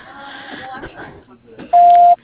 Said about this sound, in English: Otherwise, please leave your name, your phone number, and a brief message after the beep. We will return your call.